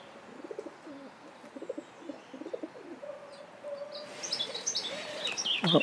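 A dove sitting on a gate coos in low, rhythmic phrases, while other birds sing bright, chirping songs in the background that grow busier toward the end.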